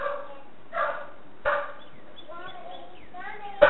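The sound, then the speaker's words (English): A dog at a house barks several times as a visitor comes to the door, with short, sharp barks spaced irregularly, softer whining or yelping sounds in between, and a louder bark at the very end. “Sorry to get the dog barking.”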